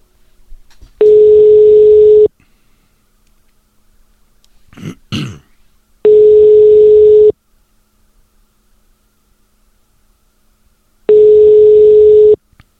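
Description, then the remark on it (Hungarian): A phone call to a prize winner rings out unanswered: three long, steady, buzzy ringback tones about five seconds apart, with a brief throat clearing between the first and second tones and no voices. “vedd föl kérlek a telefont.”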